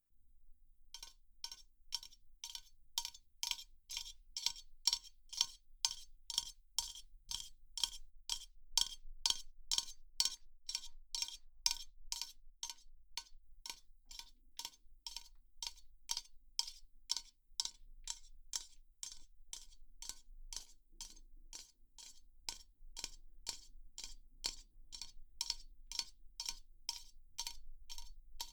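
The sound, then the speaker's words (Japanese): Rapid, steady tapping on a metal spray can of carbonated facial toner, dozens of crisp bright taps in a regular rhythm, fairly quiet, with no voices. “そうだな、じゃあさっき使った炭酸化粧水のスプレー缶をタッピングしてみるね。”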